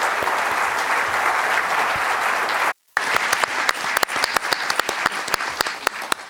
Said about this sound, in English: Let's give a round of applause to tonight's panelists.